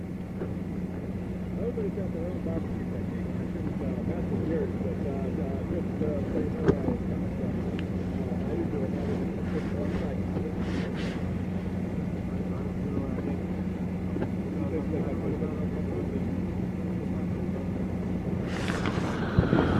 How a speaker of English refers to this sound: It's windy. Not mad windy, but windy.